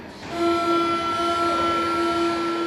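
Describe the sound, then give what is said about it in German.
BVG U-Bahn subway train doors closing at a station, marked by a steady, fairly loud electronic tone that rises in quickly and holds over a rumbling platform background, with no one talking. “Wer hier die Türen der U-Bahn offen hält, macht sie eventuell kaputt.”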